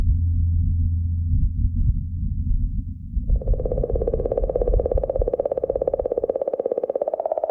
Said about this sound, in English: And again with the Ingenuity helicopter taking flight, off to discover the secrets of the Martian landscape.